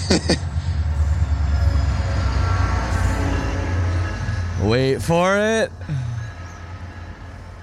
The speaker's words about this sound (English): Oh, here comes a train. That's rad. Oh, there you go. We'll just wait for this train.